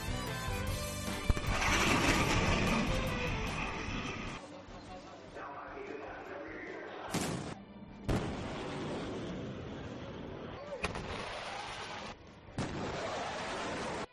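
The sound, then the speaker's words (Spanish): A loud sonic boom from a supersonic jet breaking the sound barrier, a shock wave, opens with a broad, roaring blast that rumbles on for several seconds, followed by a few sharper thuds and cracks over a lingering low roar. “Esto que acaban de oír es un avión rompiendo la barrera del sonido.”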